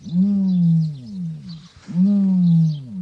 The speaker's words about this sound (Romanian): Iată, ați vrut să auziți glasul. La ferma lui Iurie Țurcanu, unul dintre struți și-a demonstrat talentul în coreografie, iar altul ne-a convins că struții au și o voce deosebită.